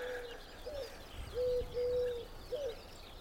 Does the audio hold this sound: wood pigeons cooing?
yes